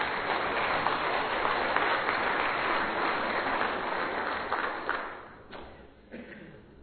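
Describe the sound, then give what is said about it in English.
An audience at a church sermon breaks into steady applause, a dense wash of many hands clapping that holds for about five seconds before thinning out and trailing off. “If you were looking for a place to clap, that would have been a great opportunity right there.”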